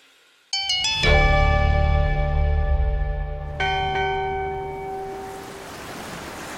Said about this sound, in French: Vous entendez cette cloche? C'est celle d'un navire dans la tourmente. Un navire qui vogue vers un massacre.